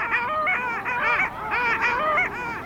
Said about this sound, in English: On this lake right now, there's an incredible congregation of long-tailed ducks. A huge group of males is vigorously competing to attract females, to fend off and fight off rival males.